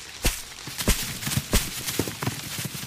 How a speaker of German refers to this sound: Dann stampfen wir jetzt alle zusammen. Aufgepasst? Auf die Plätze? Fertig und los! Stampfen! Und nochmal stampfen!